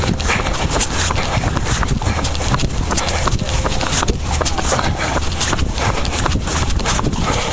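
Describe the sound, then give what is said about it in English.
Horse carriage hooves clip-clopping steadily on a street, a continuous rhythmic clatter amid busy outdoor city noise with faint voices in the background. “You can hear the horse carriages.”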